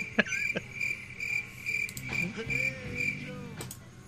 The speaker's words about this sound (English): I don't have a guess. Maybe that's the crickets intro music.